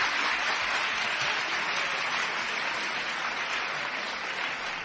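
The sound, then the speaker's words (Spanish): Loud, sustained applause from a large crowd of schoolchildren at the Colegio Santa María de la Capilla, a Marist Brothers school, during a radio broadcast, a dense steady clatter of many hands that fills the whole stretch without letting up and with no clear voices above it. “Hoy desde el Colegio Santa María de la Capilla, desde el Colegio de los Hermanos Maristas, donde vamos a estar hasta la 1:30 en punto de la tarde y donde yo quiero empezar con este fuerte aplauso para toda nuestra audiencia.”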